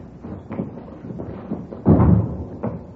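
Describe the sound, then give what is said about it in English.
A door is opened and closed: a few soft handling knocks, then a heavier clunk and rattle as it shuts, followed by one last light tap. No one speaks. “Here, I'll get the door.”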